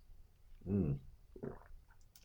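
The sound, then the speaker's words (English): Someone sips hot Irish breakfast tea: a short gurgling gulp, then a softer wet sound a moment later, quiet and with no talking. “You know, I've got my Irish tea right here. It's so delicious. Take a sip.”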